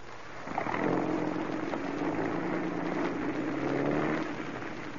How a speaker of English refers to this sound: He's getting into the car now. He's rolling.